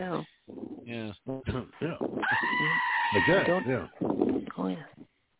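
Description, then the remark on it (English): A goat lets out a loud, scared squealing bleat, one long, strained, wavering cry in the middle, with shorter nasal bleats and vocal sounds right before and after it. “Goat squealing like a scared goat.”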